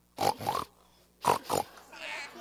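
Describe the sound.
Children's voices imitate a pig, giving two pairs of quick, snorty oinks separated by a brief pause. The oinks are close and fairly loud, followed by faint background noise.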